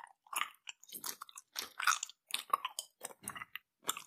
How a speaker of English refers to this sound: More gum chewing.